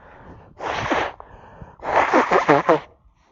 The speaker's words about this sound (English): Just for the recording, that was me blowing my nose, okay? It wasn't an earthquake.